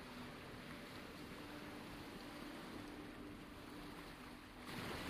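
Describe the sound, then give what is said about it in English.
Open ocean water nearly 15 feet deep sloshes and laps steadily around swimmers, a continuous rushing wash with no voices, shifting to a brighter, hissier splash in the final half second. “We reach an open patch of ocean, the water nearly 15 feet deep.”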